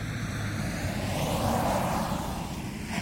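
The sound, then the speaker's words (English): A car's engine rumbles, swelling as the vehicle rolls up outside a house and slows to a stop, a steady whooshing drone with no voices. “Just then, a car drew up outside the house.”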